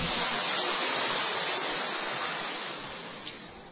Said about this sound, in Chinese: 让我们再一次鼓掌，谢谢今天所有见证人的见证。